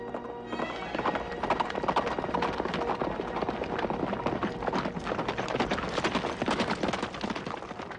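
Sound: horse hooves galloping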